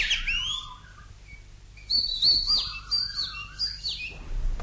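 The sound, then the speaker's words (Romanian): A caged nightingale, sick and pining, chirps and whistles in quick, bright phrases, its warbling notes rising and sliding, clear over a faint low hum. “Avem o privighetoare în colivie.”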